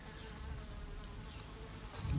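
A loud fly buzzes steadily, its droning hum continuous for a couple of seconds and swelling slightly louder at the end, with no one speaking.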